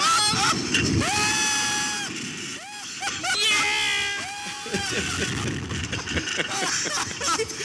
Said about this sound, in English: you should see your pastor in the face of fear. Knuckles, baby. You scream.